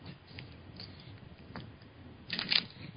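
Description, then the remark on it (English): Soft, papery riffling and flicking of a deck of cards being shuffled, with a louder burst of rapid card riffles near the end; no one speaks. “So I'm shuffling the cards, thinking of you, Louise, in Canada.”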